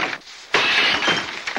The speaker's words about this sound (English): she watches Brick swing a fire iron at a vase